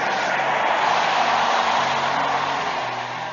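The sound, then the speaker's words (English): An audience shouts amen together, a dense, loud roar of many voices sustained throughout before easing off slightly at the end. “Shout amen at the top of your voice.”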